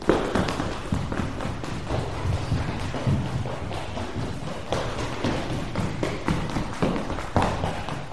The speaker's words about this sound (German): In der Turnhalle hast du viel Platz. Da kannst du dich so richtig austoben. Und ganz schnell durch den Raum rennen.